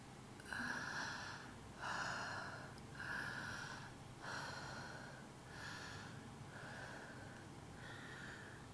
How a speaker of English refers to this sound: I swallow. And then we slow. Sweating and breathing heavily.